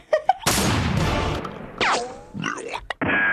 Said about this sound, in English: New Year's, I'm gonna go into a war zone. There's gonna be guns firing. You're gonna hear a bunch of explosions. All night long.